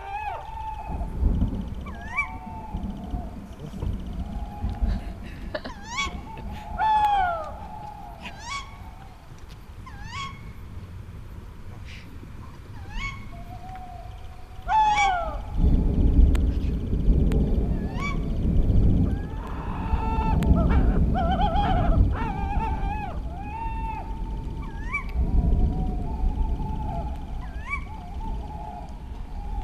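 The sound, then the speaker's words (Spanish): Young owls give repeated high, wavering whistling calls throughout in the pine forests of Valsaín, while the low rumble of a distant thunderstorm rolls and swells beneath them in the second half. “De manera que en esas fechas, cuando los pollos que han nacido se tienen que emancipar, se meten en territorios ocupados y en el Pinar, en los bosques de Valsaín, se montan estas fantasmagorías mientras truena la tormenta a lo lejos.”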